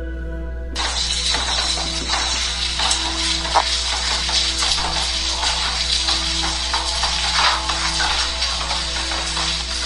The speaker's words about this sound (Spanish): Está lloviendo. ¿Sí se alcanza a escuchar, eh? Sí, se oye el goteo.